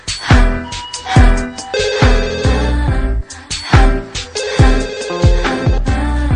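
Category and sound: signal or alarm, phone ringtone ringing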